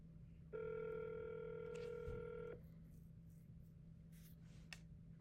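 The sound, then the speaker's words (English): A single electronic ringback tone sounds on a Google Voice phone line while a call connects, a steady buzzy ring lasting about two seconds, then only faint line hum and hiss. “phone, and Google Voice will try to connect you.”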